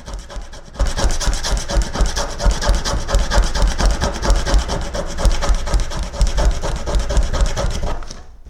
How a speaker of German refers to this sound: Keinen Wimpernschlag später werden marineblaue, tiefe Striemen im Holz sichtbar. Gerollte Holzspäne-Stückchen verteilen sich um die Kugelschreibermine, die sich immer wieder in das weiche Holz frisst.